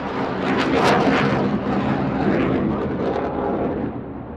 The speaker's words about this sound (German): Die F-35 ist das allermodernste Kampfflugzeug mit Stealth-Eigenschaften